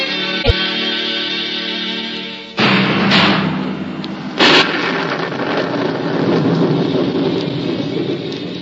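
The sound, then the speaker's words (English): A thunderstorm around a castle, with steady heavy rain broken by loud rumbling thunder crashes, including a sharp crack early on and a big roll near the middle, with no voices. “Storm rages round the castle of Rutherford, the castle of Cedric the Saxon.”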